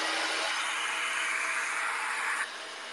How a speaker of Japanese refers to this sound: ドライヤーしまーす。3、2、1、ドン。